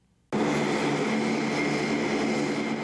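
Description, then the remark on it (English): After a brief quiet start, the loud, steady drone of transport plane engines kicks in and holds, a dense roar with a humming propeller-like tone running underneath, as transport planes bring about 130 U.S. Army paratroopers to Estonia on Monday as part of a NATO show of force in Eastern Europe. “Transport planes brought about 130 U.S. Army paratroopers to Estonia on Monday, part of a NATO show of force in Eastern Europe.”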